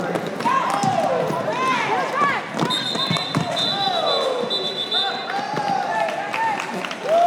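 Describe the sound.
A loud crowd cheers and yells nonstop at an Orlando Derby women's roller derby bout, voices rising and falling with echo, with sharp squeaks and a sustained high whistle-like tone midway.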